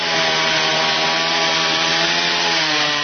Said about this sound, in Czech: Zvuk motorne testere odjekuje ovog septembra u pirotskim šumama. To je dokaz da je sezona pripreme ogrevnog drveta u punom jeku.